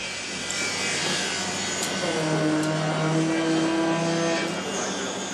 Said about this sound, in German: Heidestraße, nördlich vom Berliner Hauptbahnhof. Eine der größten Baustellen Deutschlands. Allein dieses Gebäude wird über 500 Meter lang.